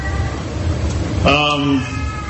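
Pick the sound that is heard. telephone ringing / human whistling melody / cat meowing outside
cat meowing outside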